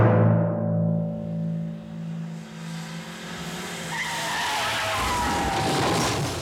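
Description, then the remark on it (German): Car brakes screech and tires skid loudly on the road, a sustained harsh squeal with engine rumble underneath that rises into higher tonal whines toward the end. No one speaks. “Dieses Moment, was man im Grunde im Alltag überall erlebt, also wenn ich in meinem Zimmer sitze und draußen auf der Straße ist ein Verkehrsunfall, da kreischen die Bremsen.”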